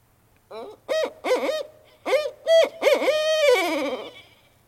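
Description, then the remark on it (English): A barred owl hoots in a rhythmic series of loud, clear notes, several short hoots followed by a longer drawn-out call that trails off at the end, with no voices. “It's called a barred owl. And Calvin, if you'll play that one.”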